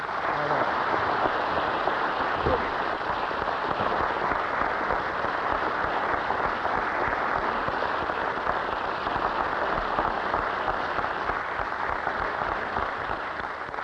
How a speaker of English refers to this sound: That applause for David Dellinger.